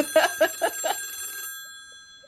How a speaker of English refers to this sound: Just, whose phone is ringing? Okay.